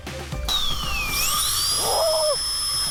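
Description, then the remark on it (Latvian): A high-pitched dental drill whines steadily, its pitch dipping and then rising as it grinds, with a brief burst of scraping partway through. It is loud, with no talking. “Slīpēt!”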